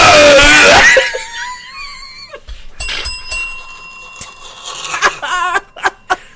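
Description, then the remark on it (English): A bell rings out clearly with a bright, lingering metallic tone after a loud burst of shrieking noise, while scattered voices and laughter pop up faintly around it. “You ring the bell.”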